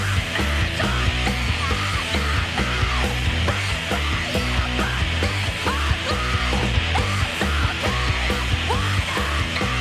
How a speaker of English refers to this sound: Now she does the simple things, like going for walks, relaxing, and playing music. And of course, blood-curdling screams.